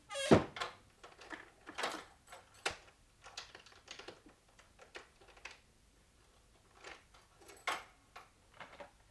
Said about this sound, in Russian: На ключ запирают наружные двери.